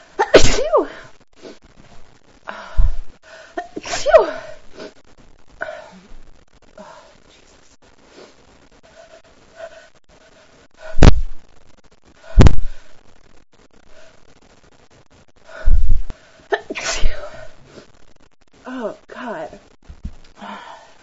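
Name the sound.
repeated sneezing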